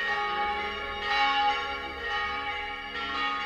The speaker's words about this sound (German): Immer kleiner werdende Menschlein winken, das Dorf schrumpft bald auf Spielzeuggröße. Gerade das Läuten der Kirchenglocke ist noch zu hören.